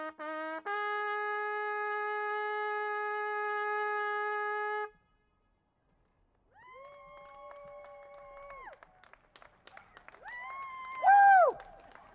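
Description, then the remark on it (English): People all through a community clap in a light patter at sunset after taps is played, with whoops and sustained cheering tones rising over it, and one loud whoop that slides downward near the end. “And when I'm done, all through the community, this little patter-patter of people clapping and whooping, and just for that moment, we're all reminded that we're together here.”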